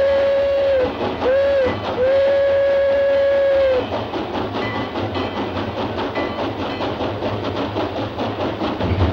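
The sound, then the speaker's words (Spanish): A locomotive whistle sounds a couple of short blasts and one long one, then the steady rhythmic chugging and rattle of the locomotive take over, fairly loud, as it pushes a railway wagon loaded with railway building material along the track. “Una locomotora empuja un vagón cargado de material para el ferrocarril.”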